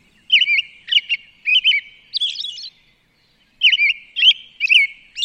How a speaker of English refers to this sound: When she listened to a CD of the bird sounds of her area, she found that it was instead the song of a Swainson's thrush. The two birds are closely related,